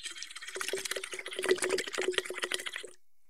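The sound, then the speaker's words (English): Bubbling as air is blown through a straw into a tall glass half filled with water, a steady burbling stream about three seconds long with a faint hum-like tone running underneath. “Put a straw into a small bottle or a tall glass, half filled with water, and you'll see how helpful it can be right away.”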